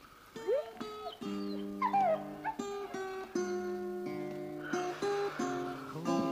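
A female dog named Milka whimpers and whines in a run of high, plaintive cries with rising and falling pitch, fairly loud, over steady sustained tones.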